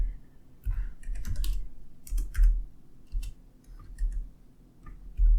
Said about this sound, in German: Ich muss mal kurz hier tippen.